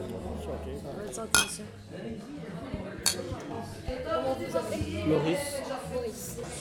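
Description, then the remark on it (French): Busy ambience at Le Laboureur, a neighbourhood bistro in Molenbeek with a wooden bar and card players: a steady murmur of overlapping voices with sharp clinks of glasses and cutlery, including a few loud metallic strikes cutting through the chatter. “Menacé par la pluie, j'échoue au laboureur, son bar en bois et ses joueurs de cartes.”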